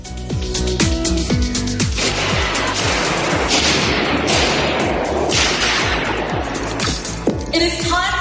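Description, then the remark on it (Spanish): Sharp, loud blows crack again and again against the protective glass of Velázquez's painting the Venus del Espejo in London as two young people vandalize it, in a rapid, uneven barrage, each hit a hard snapping bang almost like gunfire, with faint voices in the background. “No son disparos, son dos chavales que han cometido un acto de vandalismo, no tiene otro nombre, que se han cargado el vídeo protector de este cuadro del que te hablaba, de la Venus del Espejo, de Velázquez, que está en Londres.”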